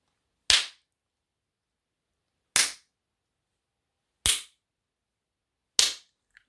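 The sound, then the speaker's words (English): Four sharp, loud spanking slaps land one at a time, spaced roughly two seconds apart, each a crisp smack that decays quickly, with silence between and no voices; the spanks are given as a punishment. “Now, I'm going to give you 8 spanks for your disobedience.”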